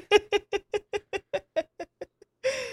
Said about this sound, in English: Well, that sounds terrible. That's really annoying. Is this really the siren? It's terrible.